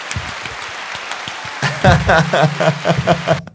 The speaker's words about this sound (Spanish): Era música sorpresa, pero nos despedimos con aplausos para que se vea mágico.